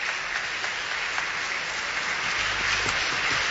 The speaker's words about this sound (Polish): Ojcze Święty, gorącymi brawami, oklaskami przywitany, można powiedzieć, przez swoich współbraci, przez grono najbliższych współpracowników w jego posłudze Piotrowej, jakimi są księża kardynałowie.